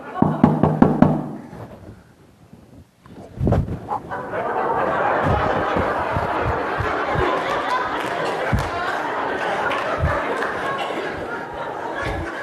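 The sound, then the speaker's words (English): A quick run of five or six sharp knocks on a door by a man playing a preacher in an onstage demonstration, followed by a short pause and then a swell of audience laughter and murmuring that carries through to the end. “And the preacher comes and knocks on the door.”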